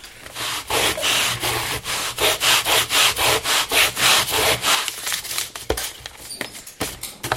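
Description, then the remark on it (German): Rapid, steady back-and-forth sanding strokes on a small wooden star, fairly loud, with the scratchy rhythm loosening into a few scattered rubs near the end. “Möchtest du einen Stern schleifen?”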